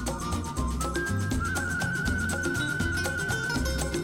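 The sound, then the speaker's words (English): A person whistles a sustained, flute-like melody with long held notes and gentle pitch glides, sounding clear and prominent over a steady backing of rhythmic music, on a 1967 recording by a British performer. “So that's whistling. It sounds like a flute. I know, that's a human.”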